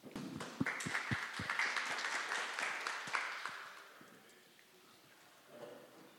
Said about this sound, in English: Please give a big round of applause and we'll begin with the session.